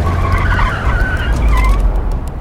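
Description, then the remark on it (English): A truck's engine roars as it accelerates hard to overtake a car and cut across it, with tires squealing and skidding in sliding high-pitched streaks over a steady low rumble, no voices. “The truck driver hits the gas and overtakes the car. And then he cuts across Tyler.”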